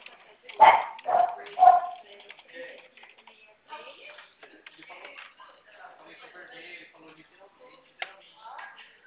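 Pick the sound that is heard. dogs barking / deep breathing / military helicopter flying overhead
dogs barking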